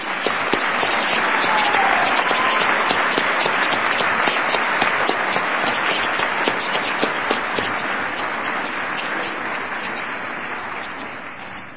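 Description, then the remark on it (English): A large audience at a graduation commencement applauds the dignitaries steadily, dense overlapping claps forming a continuous wash of sound that stays loud throughout and tapers only slightly toward the end. “Now let's applaud all of our dignitaries.”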